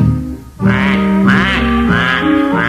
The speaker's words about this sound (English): D is for the duck who always goes quack, quack, quack, quack.